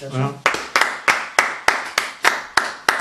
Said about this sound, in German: Du darfst ruhig klatschen.